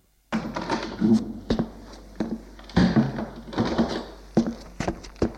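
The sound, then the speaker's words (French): A door opens with a clunk of the latch, followed by a series of knocks and thuds as it swings and settles, with a scraping, rustling texture between the impacts. “La porte s'est ouverte.”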